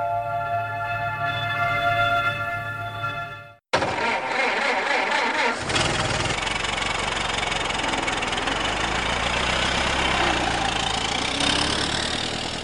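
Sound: car engine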